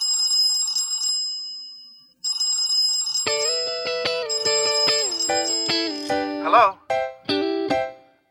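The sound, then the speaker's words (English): A telephone rings with a bright electronic trilling tone that pauses briefly, then gives way to a busy, melodic run of synthetic ringtone notes, loud and clear with no talking. “I'm sorry I haven't been picking up the phone lately.”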